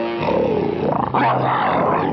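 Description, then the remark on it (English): A saber-toothed cat growls in a loud, rumbling roar that wavers in pitch, breaking off briefly about halfway before surging back and holding for about two seconds with no voices. “Oh, growl yourself.”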